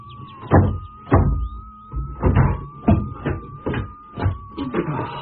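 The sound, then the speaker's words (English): A swollen wooden door is forced open with a series of heavy thumps and scrapes, about eight shoves in uneven rhythm, over a faint steady whine. “Door must have got a bit swollen.”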